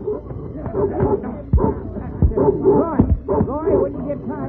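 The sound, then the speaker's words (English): A dog named Bullet barks and growls in a rapid, agitated series of loud bursts, with sharper yelps breaking through the steady snarling. “About this dog, or we won't have no prisoners to take old Kinshaw.”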